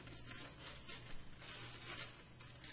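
Wrapping paper rustles and crinkles steadily as a package is unwrapped, a continuous scratchy rubbing with small surges in loudness and no voices.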